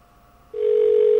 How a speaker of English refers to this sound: And that's a distinctive WBAI ring right there. And I guess to prove it, I'll pick up this line.